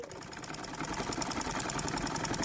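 A sewing machine runs steadily up close, its fast, even mechanical clatter continuous throughout and growing slightly louder, with no voices present.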